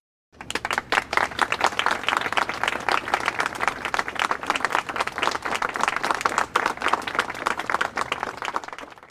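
applause

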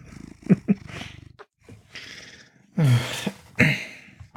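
domestic cat purring

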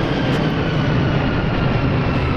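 airplane flying overhead

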